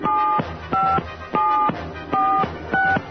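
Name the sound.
telephone number being dialed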